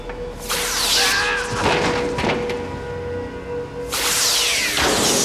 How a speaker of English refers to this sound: They fire at the door, which blasts open, and they rush to help the injured prisoners.